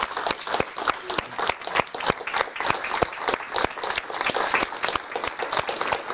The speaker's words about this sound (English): I'd like to also thank your facilitators for their hard work and give them an applause.